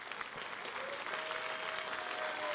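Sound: audience applauding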